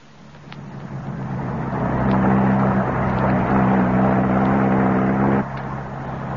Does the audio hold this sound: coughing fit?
no